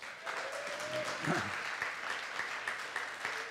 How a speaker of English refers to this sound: But now here's the deal. There's a whole team. You clap for her. So if you don't clap for somebody else, it's going to hurt their feelings, because a lot of them are in this room.